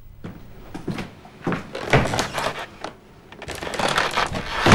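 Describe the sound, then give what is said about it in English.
Heavy feet stamp on wooden floorboards in a cottage, a series of loud thuds in an uneven rhythm, building into a denser flurry of stomping near the end, with no voices. “Slee is in his cottage, stamping on the floorboards.”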